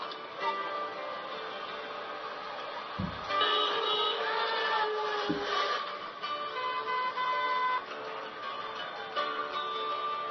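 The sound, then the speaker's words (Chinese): Dense city traffic in Kolkata, India, with buses, taxis and electric vehicles packed bumper to bumper and car horns honking almost nonstop, several overlapping tones blaring over a steady rumble of engines, with a couple of brief low thumps and no talking. “市区道路上，公车、计程车、电动车，一台紧紧贴着一台，奋力向前行。喇叭声震天尬响，大辣辣的向世人宣告，拥有1300万人的加尔各答大城，每天都是这么朝气的活着。”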